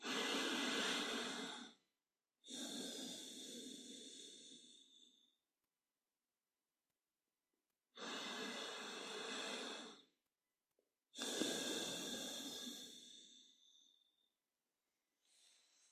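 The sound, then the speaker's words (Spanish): Two slow, deep breaths taken in a meditation posture at the start of a meditation, each a long airy inhale followed by a fuller exhale, separated by quiet pauses, with no talking. “Adoptad la postura de meditación que consideréis más idónea y vamos a realizar un par de respiraciones profundas.”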